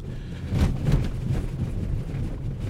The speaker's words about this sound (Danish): Det, I kan høre, det er de huller, jeg kører henover. Jeg rammer dem med vilje, fordi ellers er der ikke meget lyd, jeg kan sådan bringe videre til jer. Og det gør jeg for ligesom at indikere, at den har altså en lidt spændstig affjedring.